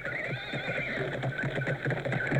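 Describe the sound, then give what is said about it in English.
Horses neigh and whinny loudly over a steady, rapid clatter of hooves as riders gallop very quickly, with no voices. “D'Artagnan and the three musketeers ride very quickly. Soon they're next to Lady de Winter's carriage.”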